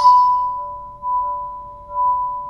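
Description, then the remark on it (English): A bell with a small speaker inside it sounds a bell-like tone that is struck and then held as a steady, pure ringing that swells gently about once a second, sounding slightly electronic, with no voices. “A recent work, it involves bells with little speakers inside them.”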